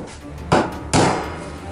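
Two heavy, booming impacts about half a second apart as a police team rams and forces open a door, each with a short ringing decay over a low background rumble. No one speaks.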